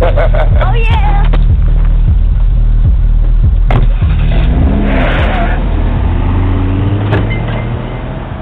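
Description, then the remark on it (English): A car engine revs loudly, its pitch rising and falling, then the roar begins to fade as the vehicle pulls away, with faint voices mixed in underneath. “Hey, man, he took my car for me.”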